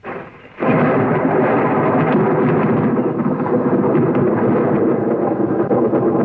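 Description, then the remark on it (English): A deep, sustained rumble of rolling thunder from an approaching storm swells in after a brief quieter moment, then churns loudly and continuously with a broad, grumbling roar. No one speaks. “Storm coming up. We better get back.”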